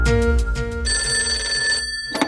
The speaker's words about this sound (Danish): Og som du kan høre, ringer jeg fra en telefon.